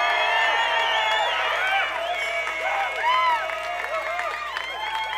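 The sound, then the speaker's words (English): A crowd cheers and whoops loudly and steadily for a saxophone player during band introductions. Many voices rise and fall in pitch over a bed of applause that carries on for the whole stretch without pause. “Also, please keep your hands together for our saxophone player, Mr.”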